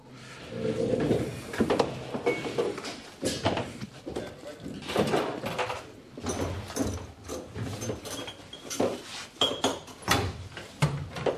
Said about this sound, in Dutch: Dus de deur gaat dicht. En de container die gaat open.